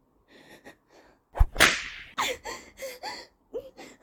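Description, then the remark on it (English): A single sharp, loud whip crack snaps out mid-clip with a brief hissing tail, surrounded by wordless vocal cries and groans before and after. “I will cry out my surrender loudly so that everyone in your garden can hear at each crack of your whip.”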